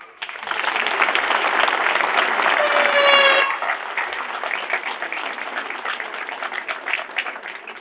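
Audience applause welcoming a candidate at an election campaign event: a dense, steady wash of many hands clapping that starts abruptly, holds loud for about three seconds, then eases slightly and continues as scattered, uneven clapping.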